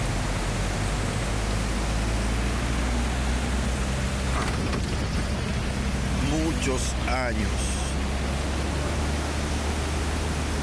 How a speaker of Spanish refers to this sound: que este río no se veía bajando tanta agua como va ahora. Es una corriente terrible. Wow. Como ustedes pueden escuchar ese río, como dijo el señor, que nunca en su vida había visto un río bajar, nunca se había visto ese río con tanta agua